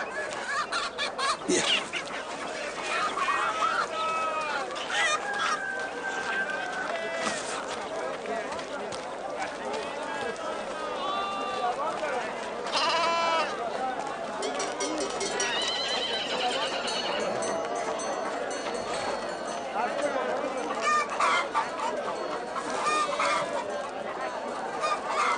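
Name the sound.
chickens clucking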